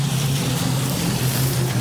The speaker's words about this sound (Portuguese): É, não tem como ninguém passar. Olha como está essa água.